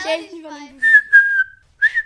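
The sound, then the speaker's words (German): A person gives a short whistle to call a dog: a voiced, sliding tone drops in pitch, then breathy, steady whistled notes follow in two or three bursts, fairly loud. “Wenn ich einen Hund habe, dann mache ich pfeifig.”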